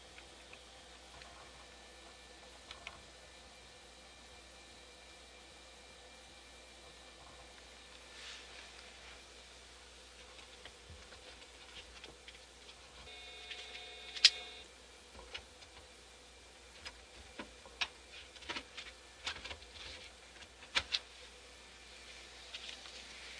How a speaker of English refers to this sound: Okay, I heard a beep again, and I put disk number one back in. I'm using 3.5-inch diskettes, so I've only got two. So when it beeped the second time, I go back to disk number one, because that's where it wants to be when, you know, to finish off.